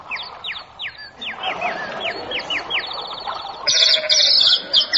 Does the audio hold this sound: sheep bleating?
yes